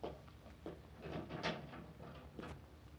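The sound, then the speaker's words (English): A door is opened to answer a visitor, with a few sharp clunks and rattles of the latch and wood spread over a couple of seconds amid low background rumble. “Oh, there's someone at the door. I'll answer it.”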